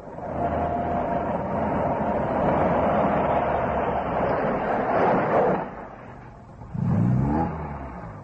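car driving on road

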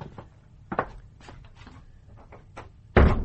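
door closing

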